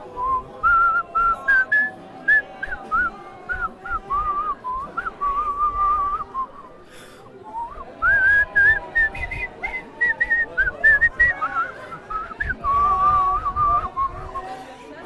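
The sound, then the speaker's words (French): A person whistles a melodic tune at a protest for most of the stretch, pausing briefly midway, with faint crowd chatter and background noise underneath. “Tu veux que je siffle quelque chose ?”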